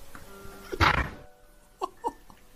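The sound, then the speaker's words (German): A door is slammed shut in anger with one loud, heavy, booming thud, then a couple of fainter short knocks or squeaks follow. “Junge, ist es das mit der Tür, wo er diese zuknallt?”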